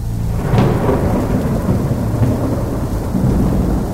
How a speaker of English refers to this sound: Outside, the deadly rain was starting to extinguish the rampaging fires. The exposed corpses on the sidewalks quickly began to dissolve under the deluge. Louder than cannons, the thunder rumbled once more